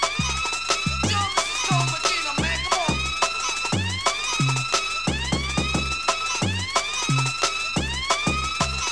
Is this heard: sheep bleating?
no